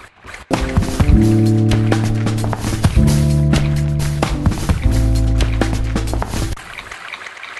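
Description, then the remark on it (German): Water sloshes and splashes steadily and loudly for several seconds, mixed with sustained ringing pitched tones that shift in blocks before everything fades to near silence. No one speaks. “Die benutzten Klänge haben allesamt mit Wasser zu tun.”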